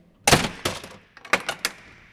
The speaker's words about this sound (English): A jail door slamming behind him is the last thing a gang member wants to hear.